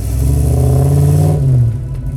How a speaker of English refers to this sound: Back when V8s were synonymous with sports cars, and cars with bigger displacement engines and more cylinders tend to make a deeper noise.